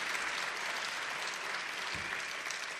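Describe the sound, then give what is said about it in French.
Sustained audience applause for the performers after their performance of texts by Aimé Césaire. The applause is a dense, steady wash of many hands clapping at an even loudness throughout, with no voices standing out. “Applaudissements fournis pour … sur les textes d'Aimé Césaire.”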